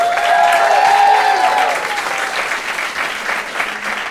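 An audience bursts into sustained, dense applause with a few whistles and cheers on top, voting by clapping in a debate on whether Twitter and Facebook should severely limit online speech; loudest at the start and tapering slightly but continuing throughout.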